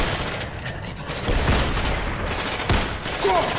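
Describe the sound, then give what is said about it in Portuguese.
Several loud gunshots ring out at irregular intervals as men open fire on an attacking zombie, over a dense, noisy background, with sharp cracks standing out against a continuous rumble of commotion. “saindo do caminho do zumbi e dos tiros dos sujeitos que começavam a atacar.”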